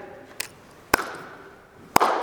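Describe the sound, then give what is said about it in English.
Slow, sarcastic hand clapping: three sharp, crisp claps spaced far apart, the first softer and the next two louder, with no talking over them. “That slow, sarcastic clap.”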